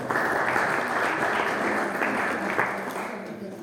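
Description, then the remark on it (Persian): A crowd at a meeting applauds the mayor steadily, a dense wash of many hands clapping at an even, sustained level that holds throughout before easing slightly at the end. “آقای شهردار رو تشویق بکنید به استقبال صحبت‌های این عزیز خواهیم بود.”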